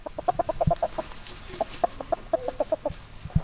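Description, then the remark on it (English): Chickens kept at a small cabin in the woods of western Missouri cluck in quick, uneven bursts of short, clipped notes, a few birds with occasional sharp thumps of movement, and no one talking. “Wilson keeps chickens, raises rabbits, and has a garden”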